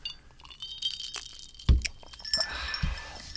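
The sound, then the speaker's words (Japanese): Glasses clink together in a kanpai toast: a sharp knock followed by a bright ringing tone that lingers amid faint rattling and handling noise, with no one speaking. “よろしくお願いします。乾杯。 乾杯。”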